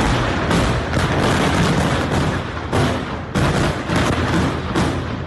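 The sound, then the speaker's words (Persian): A continuous, loud roar of blasts from an Israeli airstrike in Lebanon, heard throughout Beirut, where more than 15 rockets struck at once, with several heavier booms punching through every second or so over a dense rumbling wash of noise, and no voices. “صدای این انفجار در تمام بیروت شنیده شده و تا نوقت‌های شب شعله‌های آتش و دود غلیظ از محل حمله بلند بود.”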